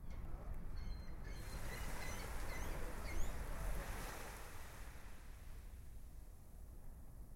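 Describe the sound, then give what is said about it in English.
Chilly waves wash steadily against the shore at a Coney Island beach in cold weather, a continuous, fairly loud rush of surf, with a faint breeze and a few thin high chirps early on; no one speaks. “Despite the cold, he and his family gathered for a traditional Coney Island meal, just feet from the beaches where chilly waves lapped at the shore.”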